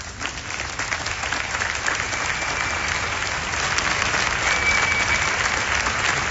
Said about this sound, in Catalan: En canvi, l'entrada de Felip VI i Letícia, a qui l'any passat van llançar fang i objectes, s'ha produït entre aplaudiments.